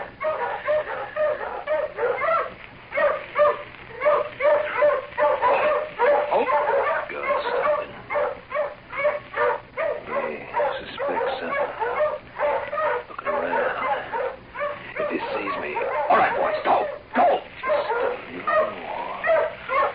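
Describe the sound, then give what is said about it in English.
Several guard dogs, led by one guard, bark and yip almost nonstop in overlapping bursts, an excited, loud chorus with some whimpering, and human voices seem to mix in underneath. “One guard, and the dogs are taking him right underneath this here tree.”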